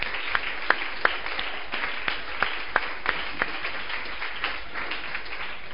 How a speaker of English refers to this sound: Let's clap for Jesus. Clap for Jesus.